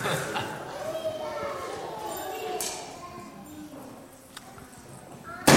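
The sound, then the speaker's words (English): A few sharp, irregular clacks of a hammer striking rock, spaced out over several seconds, with indistinct voices murmuring underneath and the last strike the loudest. “So, just keep occasionally hammering the rock.”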